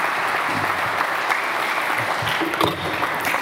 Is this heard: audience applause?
yes